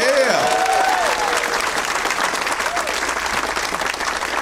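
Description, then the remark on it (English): A crowd at the Punchline claps steadily for the staff for several seconds, a dense, even wash of applause with a few whoops and cheers rising over it early on before it settles. “Let's hear it for all the staff here at the Punchline.”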